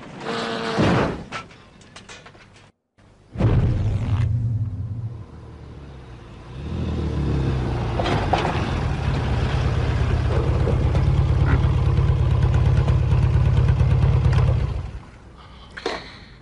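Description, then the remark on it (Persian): A motorcycle engine rumbles with a few short bursts early on, then settles into a loud, steady low idle that drones for several seconds before cutting back abruptly. “ولی یه چیز رو نمیتونست تحمل کنه، از موتورسیکلت نفرت داشت.”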